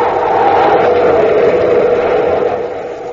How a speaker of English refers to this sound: Hey, Commander, you hear that? It's a ship. Coming in for a landing on top of the bluff. It must be Sharn.